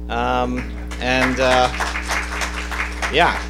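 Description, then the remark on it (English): An audience claps and cheers for the speaker's wife, with bursts of loud, sustained shouts and whoops rising over scattered applause. A rising-falling yell closes it, and a steady low hum runs underneath throughout. “Thank you for cheering her on for putting up with me for 21 years.”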